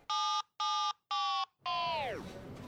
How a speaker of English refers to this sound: I hate it when my battery power is really low and the phone starts making this really annoying beeping sound. Beep, beep, beep, beep, beep, beep.